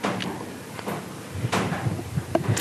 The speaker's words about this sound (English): As the sun starts to warm up the shed, I'm just listening to the creaks,